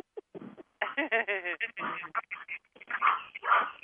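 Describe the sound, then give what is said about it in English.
A dog named Chewbacca barks several times in quick, uneven bursts, heard thinly as if over a phone line, with some muffled background noise between the barks. “What's that dog's name in the background?”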